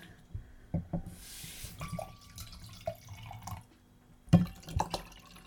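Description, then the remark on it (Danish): A drink is poured to refill an empty glass in a short hissing stream, followed by scattered drips and small clinks, ending with a louder knock as the glass is set down. No one speaks. “Og mit glas er tomt. Så vi fylder lige op, inden vi fortsætter.”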